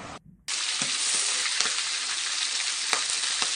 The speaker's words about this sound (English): Spit. The pan is spitting.